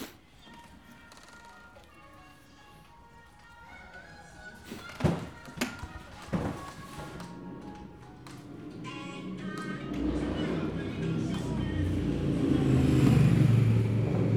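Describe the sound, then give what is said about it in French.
A motorcycle engine idles, then revs and swells into a loud, throaty roar toward the end, with a couple of sharp thuds partway through and faint voices in the background. “Ça s'appelle une moto.”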